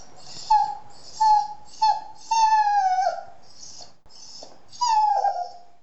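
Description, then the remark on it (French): A dog named Ulysse whimpers in a series of high, thin whines, about seven plaintive cries in a row, some short and some drawn out and falling in pitch, clear with no talking. “À un moment, j'étirai la jambe et fis semblant de me lever. Immédiatement, Ulysse se mit à gémir.”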